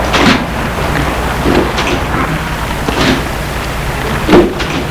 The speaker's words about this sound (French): Il appuie sur le téléphone. Oui, c'est moi. Ouvrez-moi. Bien, monsieur. La porte s'ouvre.